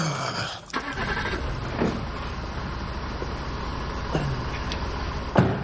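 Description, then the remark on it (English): A car engine is started by a mechanic checking it for a banging noise; it turns over and catches with a brief burst, then settles into a steady, rumbling idle for several seconds, with a couple of faint clunks. “Then he starts the car.”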